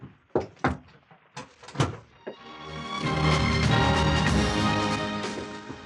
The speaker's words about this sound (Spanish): Entra. Cierra la puerta.